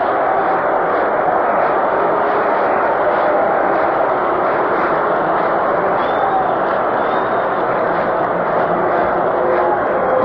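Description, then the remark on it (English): A big baseball stadium crowd chants the drawn-out name "Boog" as batter Boog Powell steps in during a series game, the massed voices merging into a loud, steady roar that swells slightly and holds for the whole stretch. “They're just going boog and drawing it out”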